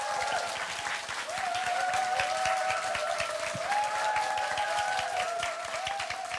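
Sustained applause from an audience fills the space, dense rapid clapping at steady loudness throughout, with faint cheering or voices woven through the crowd noise.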